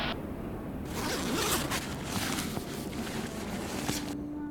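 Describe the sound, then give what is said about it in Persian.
A bag zipper is pulled open in a few long, raspy strokes during a search of people's bags at a village martyrs' memorial ceremony, a bright scratchy rustle that surges and fades over several seconds, with no voices. “خب کیفشون هم بگردید.”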